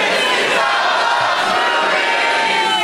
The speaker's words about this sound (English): That's even, like, a bigger crowd would be less loud than that. You guys are awesome.